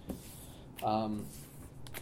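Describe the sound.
A deck of playing cards is shuffled, producing a soft, papery riffling rustle that runs for about two seconds, with a brief voice sound partway through.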